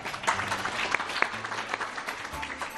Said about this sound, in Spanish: ¡Hombre, un aplauso!